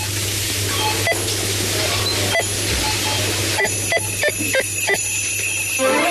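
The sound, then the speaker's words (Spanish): Christmas bells strike in an irregular series of bright, ringing hits, sparse at first and then quicker, heard through a steady wash of hiss and a low hum. “Este año, así suenan las campanas de Navidad.”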